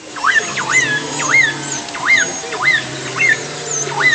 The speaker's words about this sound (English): So the whistles that you're hearing, the kind of primary noise, those are the killer whales. I've always kind of thought that they've sounded like a distressed cat.